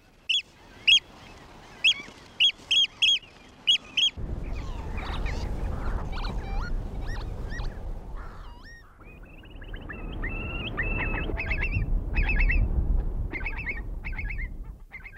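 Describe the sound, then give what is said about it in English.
A flock of wintering geese and ducks, including goldeneye, wigeon, goosander and pintail, honking and calling on open water at Loch Ken in winter, a run of sharp repeated honks at first, then a busy overlapping chorus of wildfowl calls with whistles over a steady outdoor rumble. “Other wildfowl in the loch in the winter include goldeneye, widgeon, goosander and pintail duck”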